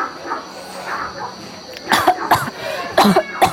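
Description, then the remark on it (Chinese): A fit of sharp coughing, about four harsh bursts coming in two quick pairs after a quiet stretch of faint background noise, from someone who drank tea too fast. “啊，喝太快了。”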